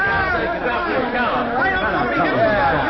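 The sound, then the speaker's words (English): A gathering crowd of people chattering all at once around a police officer making an arrest, a dense, steady babble of many overlapping voices with no single speaker standing out, continuous throughout. “Heavenly days, look at the crowd,”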